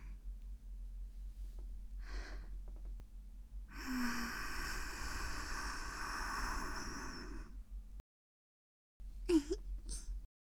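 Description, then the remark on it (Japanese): A long, soft breath blown into the ear, a breathy hiss lasting about four seconds, with a few shorter, fainter breaths before and after it. “私の吐息、そんなにいいんだ。耳から頭の中にスーッと入って、シコシコされて、真っ白な頭に染み渡るでしょ。”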